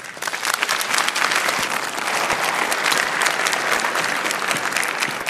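A crowd applauds steadily for about five seconds, a dense, even patter of many hands clapping at a fairly loud, constant level with no voices.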